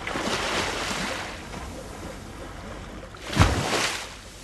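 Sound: waves lapping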